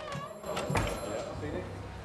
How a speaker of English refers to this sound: Chaz, key to this door. Chaz opens the door. The interview room's empty.